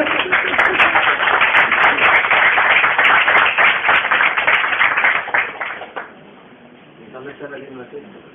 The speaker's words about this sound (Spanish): Un aplauso, ¿no?